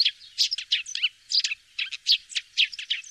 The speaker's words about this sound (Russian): Это воробей, причем полевой воробей.